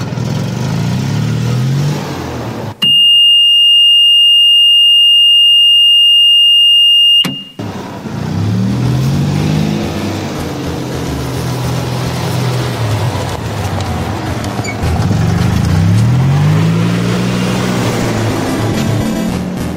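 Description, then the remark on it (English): A golf cart engine runs, then a loud, steady electronic reversing beep sounds for several seconds as it backs up, before the engine revs repeatedly and it accelerates away. “Here, everyone, get in. I've got to, back it up.”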